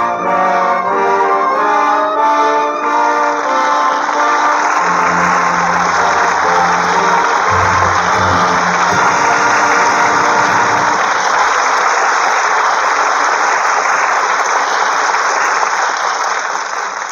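audience applause

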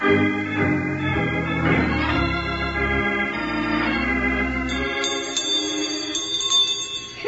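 school bell ringing

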